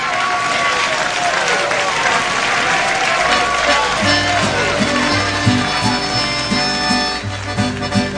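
A crowd at a live music performance applauds loudly for about three seconds, a dense clatter of clapping, before a band starts playing with steady bass and horns while the clapping fades into the music.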